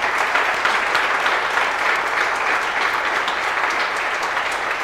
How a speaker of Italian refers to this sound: Gli vogliamo fare un applauso?